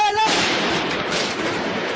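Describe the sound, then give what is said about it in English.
Harsh, distorted gunfire recorded on a smartphone from a Paris rooftop looking down at a street during an attack: a dense, continuous crackling roar fills about two seconds, loud and saturated, just after a brief trailing voice at the very start. “Gunfire recorded on a smartphone looking down at a street from a Paris rooftop.”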